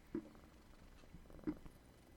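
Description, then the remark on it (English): An 18-year-old male cat, a former stray, purrs in a steady low rumbling flutter lasting the whole moment, with a couple of brief louder bumps along the way. No one speaks. “We can get that purring.”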